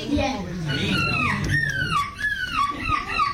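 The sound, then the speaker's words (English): A man's voice does an impression of a hungry seagull: a rapid series of loud, high-pitched squealing cries, each sliding downward in pitch, repeated about five or six times over a low rumbling background. “Can you do other emotions? A seagull that is hungry.”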